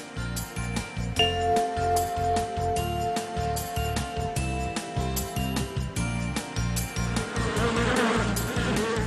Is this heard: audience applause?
no